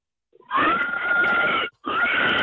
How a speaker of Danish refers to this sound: yeah, det er grise. Ej, det er stakkels dyr. Men prøv at høre, de er også nogle drama queens. Ja, altså, jo, de kan bare skrige.